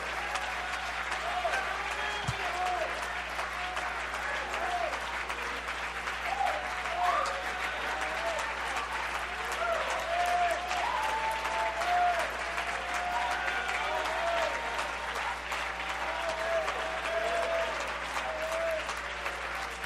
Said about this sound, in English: The Bible says, clap your hands, all you people, and shout unto God with a voice of triumph.